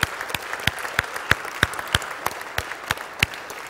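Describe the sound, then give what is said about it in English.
An audience claps together to praise the Lord in a steady beat, about three sharp claps per second, with a wash of scattered hand-clapping filling the gaps between the accents. No one speaks. “Let's give the Lord a big clap today, huh?”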